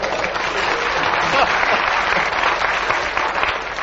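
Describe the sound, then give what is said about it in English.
A room full of people applauds the chair steadily, a dense, even wash of clapping that holds at a fairly loud level for the whole few seconds without fading. “Can we have a round of applause for the chair?”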